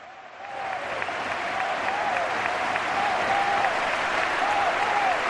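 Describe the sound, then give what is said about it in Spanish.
A large crowd of Mallorca football supporters at El Sadar stadium applauds and cheers steadily, a dense wash of clapping with rising voices and occasional whistles, building quickly and staying loud throughout. “Está la afición del Mallorca, gritando bien ayer y aplaudiendo a Luis Sanjurjo.”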